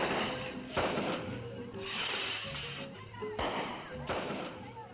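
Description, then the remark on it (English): A rocket firework, thrown into the air by hand by Father Osmara Alvarenga on a fiesta day for Guazapa and Loma de Ramas, El Salvador, bursts in a handful of sharp, staccato bangs spaced a second or so apart, cracking over a steady, noisy outdoor background with faint murmuring voices. “There was a loud report, followed by a series of staccato bangs as the rocket completed its explosive arc across the Salvadorian sky.”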